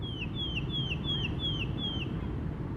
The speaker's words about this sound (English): birds. You'd so often hear birds. You just even get one or two trees on an otherwise really barren street and you get birdsong.